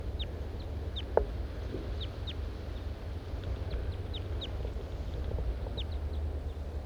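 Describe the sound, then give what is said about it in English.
A large race female fowl, getting excited, calls in a string of short, high-pitched notes repeated irregularly throughout, with one sharper, louder call early on, all over a steady low rumble. “The large race female is getting excited again, of course.”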